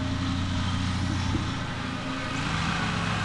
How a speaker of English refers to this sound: That engine you're hearing is landscapers. Doing interviews in the age of COVID comes with all sorts of outdoor sounds.